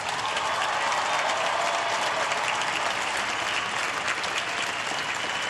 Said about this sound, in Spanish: Y lo hacemos con un fuerte aplauso. Pero sobre todo es Jesús que lo llamó. Agradezcámosle a Jesús con otro fuerte aplauso.